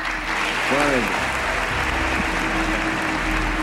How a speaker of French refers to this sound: Ce jour-là, le président américain a fait applaudir l'émir du Koweït.